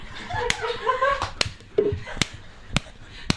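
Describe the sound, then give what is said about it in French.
Sharp slaps of someone swatting at mosquitoes, about six of them at irregular intervals, crisp and fairly loud, with a murmuring voice underneath during the first second. “Et bien sûr, les moustiques du cul attirés par l'eau. Et bien sûr, on veut les tuer.”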